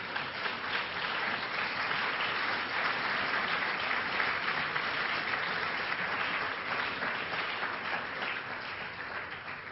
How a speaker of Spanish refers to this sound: Se puede aplaudir.